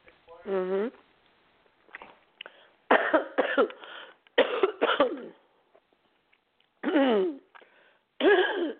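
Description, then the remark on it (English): Someone coughs repeatedly from allergies in the morning: loud, harsh bursts come in short clusters with quiet gaps between, some rough and breathy, others more voiced and throaty. “My God, my allergies this morning are horrible.”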